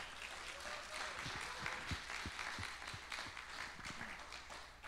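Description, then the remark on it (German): An audience at a morning church service applauds for Jesus, a dense steady wash of many hands clapping at once, with a few voices calling out beneath it, holding its level for several seconds before easing slightly. “Wollen wir Jesus einen Applaus heute Morgen geben?”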